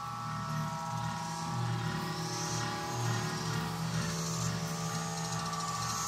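A dense, unbroken chorus of a cicada brood drones steadily, a layered mechanical buzz with faint swells in intensity and no voices over it.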